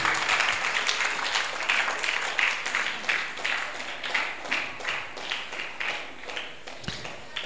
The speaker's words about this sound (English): Clap for Jesus.